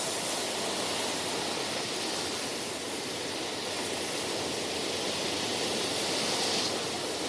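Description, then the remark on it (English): Gentle sea waves lap against an island shore in a steady, soft wash of water, even and continuous throughout, with no distinct crashes and no voices. “where you can like put on an image of his island and just hear a little bit of like the sea lapping if you want to zone out and meditate for an hour.”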